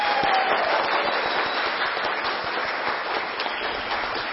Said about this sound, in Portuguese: E palmas para os nossos agentes de saúde e endemias.